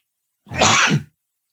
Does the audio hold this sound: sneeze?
yes